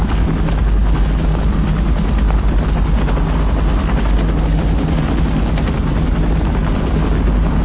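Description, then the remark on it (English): A helicopter hovers, its rotor throbbing as a loud, steady drone with dense engine roar that holds constant throughout, with no voices, while the wounded are loaded onto it. “Hold the wounded onto the helicopter!”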